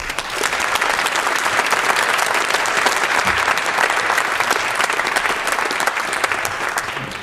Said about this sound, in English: Please give a round of applause, a huge round of applause